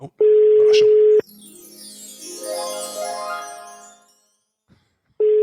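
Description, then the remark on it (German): A telephone ringback tone: a steady mid-pitched beep lasting about a second, then a long pause filled with a softer, wavering melodic sound, before the beep starts again. “Das klingelt aber schön.”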